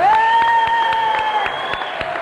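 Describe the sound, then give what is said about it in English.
A crowd at a school ceremony unveiling a plaque cheers and applauds, with a long, steady high-pitched whoop held over scattered, irregular handclaps that carry on throughout at a fairly loud level. “A big cheer”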